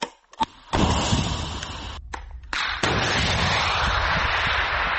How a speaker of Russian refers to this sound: Группа военнослужащих собралась вокруг пусковой установки противотанкового комплекса «Метис». Короткий инструктаж, установка ракеты и выстрел. Пострел!